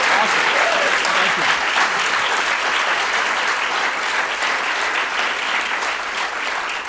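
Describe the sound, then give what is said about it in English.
Sustained audience applause for a male guest, a dense, steady wash of many hands clapping at an even loudness for the whole stretch, fading only slightly toward the end. “Let's hear a big round of applause for this brilliant, brilliant gentleman.”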